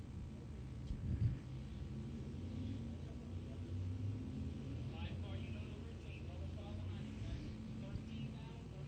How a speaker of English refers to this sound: now got a clean racetrack in front of him as the field lines up double file behind him as they head down the backstretch into turn number three.